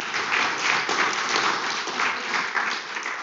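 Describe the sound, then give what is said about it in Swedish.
An audience applauds the oldest people present, who are left standing, a dense wash of many hands clapping at a fairly even loudness throughout, with no voices standing out. “Kan applådera det som vill, som ni som är äldst här.”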